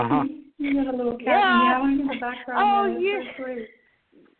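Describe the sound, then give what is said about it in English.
A male cat meows a few times, drawn-out rising and falling cries, mixed in with people talking; the meows sit at a similar loudness to the voices. “You have a little cat meowing in your background.”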